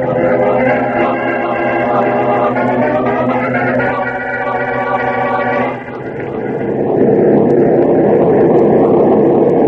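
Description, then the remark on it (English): A loud, steady airplane engine drone from a plane flying to New York with a tailwind, a continuous throbbing hum with layered tones that shifts to a rougher, broader roar partway through. No one speaks. “This tailwind will be in New York in about an hour, Chief.”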